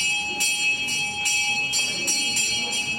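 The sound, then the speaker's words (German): A bell rings repeatedly in the spacious hall of an Ayahuasca church on the outskirts of Rio de Janeiro, with sustained, shimmering metallic tones, struck in a steady rhythm of about six strikes, resonating through the large reverberant hall. No one speaks. “Als die Glocke läutet, öffnen sich am Ende des weitläufigen Saales drei kleine spitze Fenster, eine Art Ausschank.”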